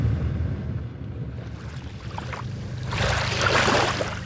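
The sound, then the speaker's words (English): A boat motors along a bay's shoreline toward the village of Chignik Lagoon, about an hour's ride, with a steady low engine drone, while wind and rushing water hiss over it, swelling louder toward the end. No one speaks. “The village of Chignik Lagoon is about an hour's boat ride along the bay's shoreline.”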